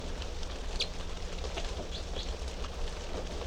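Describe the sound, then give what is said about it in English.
Three caged type 3 birds in cell number 3 give short, scattered chirps and calls against a steady, noisy background hum with a low rumble, their voices fairly faint and intermittent. “And these are the three type 3 birds in cell number 3.”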